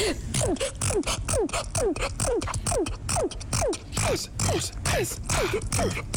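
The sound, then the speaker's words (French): A woman who sneezes about 20 times a minute sneezes over and over in a fast, steady rhythm. Each sneeze is a short squeaky burst sliding down in pitch with a breathy, pump-like rasp, loud and without talk. “Et en plus elle a un bruit bien particulier quand elle éternue.”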